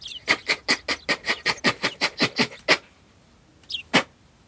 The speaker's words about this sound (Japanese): 一瞬ベランダの手すりの太さ2倍になったかと思ったら、隙間なく。 スズメが。 スズメが。いや、めっちゃ鳴いてますよ。え、これ音入っちゃいません？ いや、はい、全然ガンガン入ってる。 ガンガン入ってる。